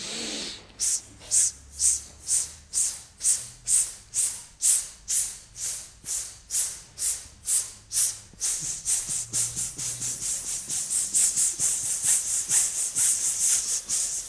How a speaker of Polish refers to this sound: A teraz, gdy nabierzemy oddech, uwaga, nabieramy oddech, to zrobimy oddychanie takie impulsywne z uderzeniem, żeby ruszyć mięśnie przepony.